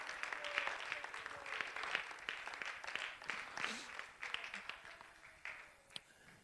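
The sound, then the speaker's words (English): A church audience claps steadily, applauding the Lord, dense overlapping hand claps at moderate volume, with faint voices murmuring underneath throughout. “Why don't you applaud the Lord for his goodness?”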